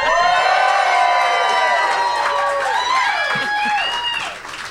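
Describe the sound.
A large audience cheers and whoops loudly for the two founders of a behavioral health company, many voices blending into a sustained roar with possible clapping underneath, before it fades out at the very end.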